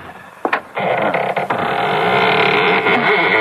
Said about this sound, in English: Doesn't sound as though that door had ever been opened. Well, a little oil on the hinges will fix that, all right.